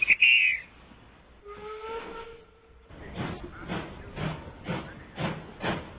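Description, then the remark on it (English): A steam locomotive at a station platform of the North Norfolk Steam Railway hisses and lets off steam. A sharp burst and a brief whistle-like tone are followed by a steady run of rhythmic, moderately loud steam puffs, with no voices. “The shop's on a station platform of the North Norfolk Steam Railway, and they're going to let us have a ride on the footplate of a real train.”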